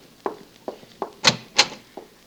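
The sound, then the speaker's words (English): A door is opened: a few soft knocks or clunks from the handle and latch, then two sharper, louder rattling clacks as it swings open, with no one talking. “You open the door for them.”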